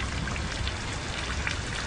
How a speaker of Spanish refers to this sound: Dejamos que el agua limpie. Limpie este paradigma de dolor, de violencia. Dejemos que la lluvia de otoño nos ayude.